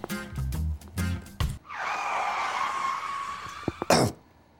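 Car brakes screech in one long, loud, sustained squeal lasting about two seconds, preceded by choppy tonal bursts and ending with a brief sharp burst.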